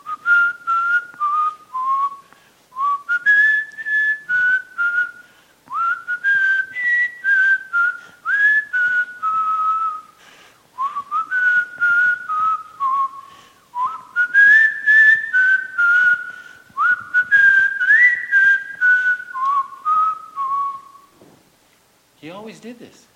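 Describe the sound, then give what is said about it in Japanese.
A man whistles a slow, steady hymn tune from the hymn book in clear sustained notes with short breaths between phrases, fairly loud, ending with a brief burst of speech. “He would whistle from the hymn book.”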